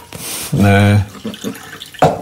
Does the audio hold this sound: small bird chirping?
no